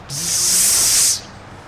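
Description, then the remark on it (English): A person imitates the hiss of hundreds of snakes infesting a grain store, with one steady, breathy 'psss' lasting about a second, fairly loud, then cutting off into quiet. “It's like this kirtan of snakes always going on. Psss. Hundreds of snakes.”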